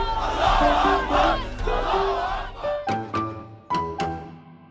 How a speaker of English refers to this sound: Okay, I'm in Tahrir Square, which is the biggest central square of Cairo. Mubarak deposed. Egypt's 18-day revolution defies all expectation. Moments ago, the crowd just exploded into cheering and flag-waving and chanting the word freedom.